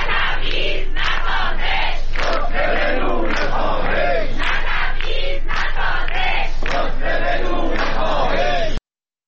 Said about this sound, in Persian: و در اصفهان معترضان بر ضد تبعیض علیه معلمان شعار دادند.